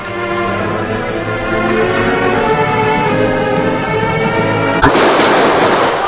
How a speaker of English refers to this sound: Only a few minutes elapsed before the Lone Ranger, Tonto, and Theodore Roosevelt approached the outlaw's hideout cabin. There was a quick exchange of gunfire.